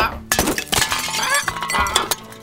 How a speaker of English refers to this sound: Engelbert's knocked blue paint everywhere.